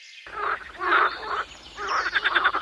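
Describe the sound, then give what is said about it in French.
A big-mouthed frog croaks in a series of raspy, rhythmic pulses, fairly loud, the last burst breaking into quick repeated clicks, with no voices present. “Je suis la grenouille à grande bouche et je mange des mouches.”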